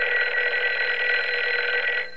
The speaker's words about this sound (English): Your phone is ringing.